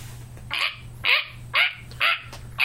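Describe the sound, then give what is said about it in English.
A woman imitates a monkey call with five sharp, yelping hoots in a steady rhythm about half a second apart. The voice is fairly loud over a low, constant hum. “She doesn't sound like a monkey, but she also doesn't quite sound like a sheep.”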